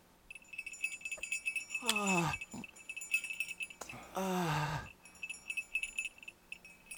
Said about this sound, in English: Let me hear that bell some more.